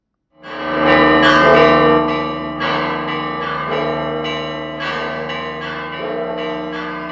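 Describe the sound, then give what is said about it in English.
Church bells in Jerusalem peal loudly and continuously on Easter Sunday, overlapping strikes ringing out in a rich, sustained wash of tones with no voices present. “Church bells rang in Jerusalem as worshippers sang hymns of the resurrection at a sunrise service at the Garden Tomb.”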